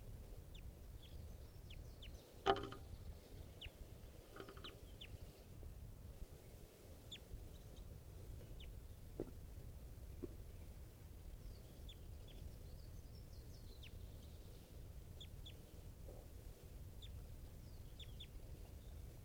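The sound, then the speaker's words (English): Short, high calls of a wild adult bird repeat irregularly over a steady low rumble, with a sharper burst near the start; the calls stay fairly faint throughout and no one speaks. “This is an adult bird.”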